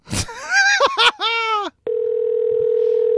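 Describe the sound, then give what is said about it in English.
A short burst of voiced, wavering vocal sounds gives way to a steady, unbroken telephone dial tone, as a call is placed to a guest in Hawaii, that holds at an even level until the end. “Let's call our guest.”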